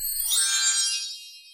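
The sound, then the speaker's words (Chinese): A bright, high-pitched page-turn chime rings once, signalling to turn to the next page of a children's story, a shimmering tinkle of bell-like tones that swells quickly and then fades away over about a second, with no voices. “这个声音，要翻到下一页哦。”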